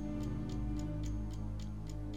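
A clock ticks steadily, about eight crisp, evenly spaced ticks in a couple of seconds, heard alone over a constant low background hum.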